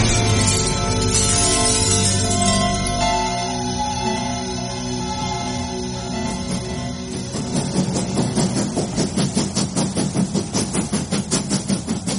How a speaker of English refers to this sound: You are on a train. It is 1947. And as you steam your way through a dark autumn landscape, you shiver from the chill.